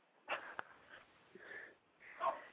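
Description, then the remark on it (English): A small dog sniffs and snuffles in a few short, breathy bursts spaced by pauses, with one sharp little click among them; soft and airy, and no one talks. “We have a crazy little dog here that wants some attention.”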